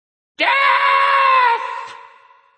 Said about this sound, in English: One of the parrot's two heads shrieked in the darkness. "Murder!" shrieked the other.